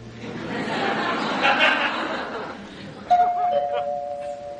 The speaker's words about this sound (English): Doorbell.